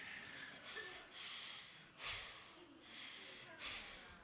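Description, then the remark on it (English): A yawn during a breathing exercise, drawn out through a series of loud, forceful breaths, with several noisy inhales and exhales in a rough, uneven rhythm and no words spoken. “I'm going to try to get a yawn.”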